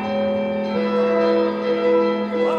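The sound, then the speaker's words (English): Orchestral bells chime to mark a coronation in an opera scene, over sustained, dense, very dissonant chords from the orchestra, the ringing tones steady and fairly loud throughout the short passage, with no voices. “these bells chime and mark his coronation”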